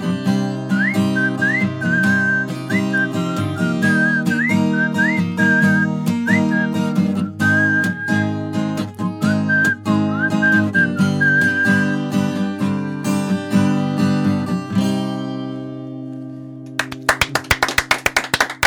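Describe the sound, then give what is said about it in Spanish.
A clear whistled melody rides over a full band with steady rhythmic backing, phrases weaving up and down before fading out, followed by a brief burst of bright noisy tones at the end. “Canciones con silbidos, sí.”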